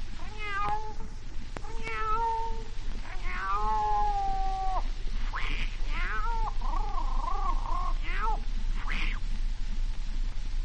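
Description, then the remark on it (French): A female cat caterwauls on rooftops at midnight in a series of drawn-out, wavering yowls and rising meows, loud, with short gaps between the cries over a steady low background hum. “La chatte à minuit sur les toits.”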